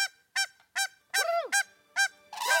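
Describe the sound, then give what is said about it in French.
Swans calling with a series of loud, nasal honks, about six or seven in quick irregular succession, with no voices, the last ones rougher and overlapping. “Un enfant disait qu'un cygne était un canard majuscule.”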